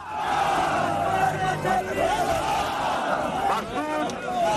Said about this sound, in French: Des milliers de personnes hurlent, pleurent sa mort, tentent de toucher son cercueil qui sera finalement ouvert sous les cris de douleur.